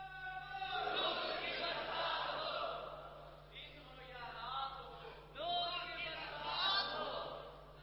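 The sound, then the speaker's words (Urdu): A crowd chants a banned slogan together in loud, sustained rhythmic bursts, many voices rising and falling in unison in repeated phrases with short breaks between them. “یہ میرے نام کا نعرہ جارے آپ کے نام کے لوگ نعرے لگائیں تو آپ رنجیدہ ہوں گے یا خوش ہوں گے؟”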